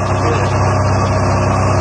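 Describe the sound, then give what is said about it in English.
A steady, loud boat engine sound effect drones continuously with a deep low rumble and even hum, with no voices over it. “Hit the sound effect to the boat.”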